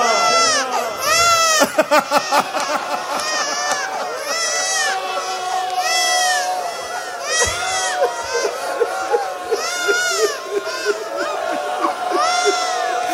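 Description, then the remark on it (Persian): A baby wails in sustained, rising cries amid a loud, agitated crowd, with overlapping shouts and voices throughout; the crying stays prominent over the commotion. “که بچه رو روی دست، صدای گریه بچه میاد.”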